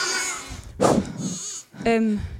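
Sheep bleat, loud wavering cries, one at the start and another near the end, with a brief rough burst of noise between them and no talking.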